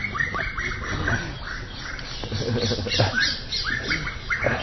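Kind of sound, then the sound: bird, birds squawking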